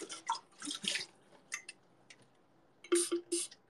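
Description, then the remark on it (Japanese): Several short, hissing sprays of Kyukyutto foam dish spray puff out in quick bursts into a tumbler being washed, a pair early on and a tight cluster near the end, with small clicks of the trigger between them, fairly quiet. “これはね、キュキュッとの泡スプレーをね、そこに届かないからね、やります。”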